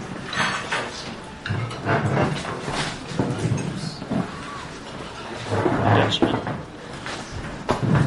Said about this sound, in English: One dead chair.